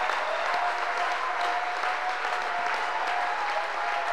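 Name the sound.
audience clapping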